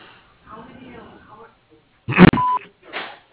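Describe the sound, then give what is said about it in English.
A single steady voicemail beep on the Mayberry's Lawnscape answering message, loud and clear for about a quarter second, comes after a muffled phone-line voice, and another voice starts speaking just after it. “Please leave your message after the beep.”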